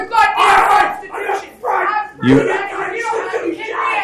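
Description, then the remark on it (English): Several agitated voices shout over one another at a public meeting in a loud, continuous crowd clamor, with rising and falling bursts of yelling and no clear pauses across the few seconds. “Okay, folks, it probably helps make the case better when people don't yell.”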